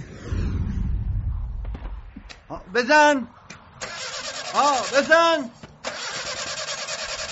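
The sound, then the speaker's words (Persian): The engine of a badly damaged car cranks and sputters as it tries to start, with a low rumble early on and bursts of harsh mechanical noise, while voices call out over it. “تازه دلاروده ماشینو جوری به هم ریختم که درست کردنش کار از رده فیل.”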